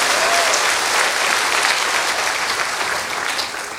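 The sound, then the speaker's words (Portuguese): An audience applauds at a preacher's invitation during a religious talk: a sustained, dense, steady clatter of many hands clapping at once, loud throughout and tapering slightly toward the end, with no voices on top. “Pode aplaudir porque você viu o ressuscitado.”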